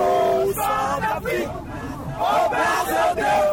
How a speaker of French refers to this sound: La foule entonne l'hymne national.